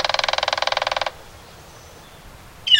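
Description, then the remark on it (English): A woodpecker drums on a metal roof: a loud, rapid roll of about twenty bright, ringing taps lasting about a second, then quiet, with a short high bird chirp at the end. “Members of the Woodpecker Percussion Band often choose early morning hours to wail away on metal roofs or gutters.”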